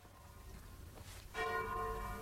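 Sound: church bell ringing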